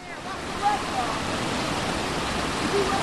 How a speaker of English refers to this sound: The rushing waters of the Blackstone River in Cumberland, Rhode Island, one of many rivers here in New England that crested, creating flooding across the region.